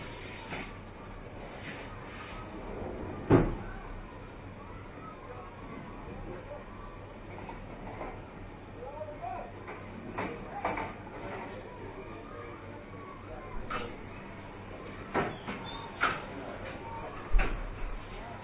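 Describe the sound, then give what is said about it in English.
Chairs are carried up from downstairs and set down, with scattered wooden knocks and scrapes over a low background rumble, one sharp thump early on and a cluster of clunks toward the end. “There's no one sitting downstairs using them, we might as well bring them up here and sit on them here.”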